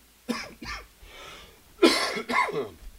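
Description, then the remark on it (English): A person with chest congestion of almost a month coughs repeatedly, two lighter coughs followed by a pause and then two harder, chesty, congested-sounding coughs, with no talking. “And you'll just have to excuse me if I start coughing. I've had this congestion for almost a month now.”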